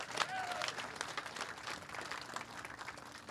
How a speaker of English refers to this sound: Any educators here today? We got any educators? Let's give the educators a round of applause here for what they're doing.